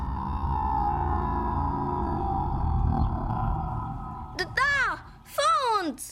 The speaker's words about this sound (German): Wie erstarrt blickten die Kinder auf das Wasser. Etwas bewegte sich darin. Etwas Großes, Knurrendes. Ein zottliger Kopf streckte sich langsam aus dem Wasser.